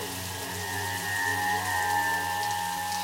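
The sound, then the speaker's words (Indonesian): A bathroom shower that turned on by itself runs steadily, a continuous hiss of falling water with droplets pattering on a hard surface, constant and moderately loud with no voices. “Iya, benar saja, shower itu menyala sendiri.”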